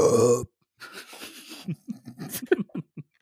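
A loud, short baby burp right at the start, a single gurgly belch, followed by a pause and then soft talking.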